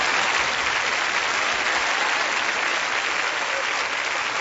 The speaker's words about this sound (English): My mother, she wants me to tell y'all that I just got married, and I think you need to clap for me because it's been a long, hard journey.